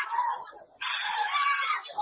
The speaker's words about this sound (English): Hallelujah. Bring for me the lady that shouts loud now under the anointing to the hearing of everybody. The power of God is coming on a lady in a congregation. It's a loud shout to the hearing of everybody.